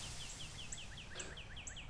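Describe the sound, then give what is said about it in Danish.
Several birds chirp in quick, repeated high tweets over a steady low rumble of wind in nature, with overlapping calls trading back and forth throughout, fairly quiet. “Lydene fra de mange mennesker forsvinder, og kun naturens mange stemmer er tilbage. Vindens sagte susen og fuglenes kvidren.”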